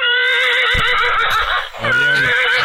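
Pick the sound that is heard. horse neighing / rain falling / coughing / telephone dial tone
horse neighing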